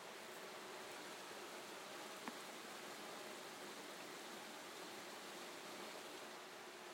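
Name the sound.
heavy rain downpour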